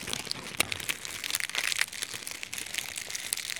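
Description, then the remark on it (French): Dry dead tree leaves crumpled and crushed, a continuous crackly rustle with sharp crinkling bursts throughout, fairly quiet and with no voices. “Enregistrement de feuilles d'arbres mortes.”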